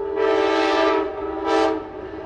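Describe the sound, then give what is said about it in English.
A loud train whistle sounds in two blasts, a long sustained tone followed by a shorter one, steady harmonic pitch with no voices, from a train at a train tunnel in downtown Washington. “Garrick Francis grins ear to ear at the sound of this whistle”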